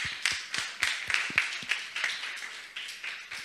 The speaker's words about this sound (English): And a big applause to all of you, I would say.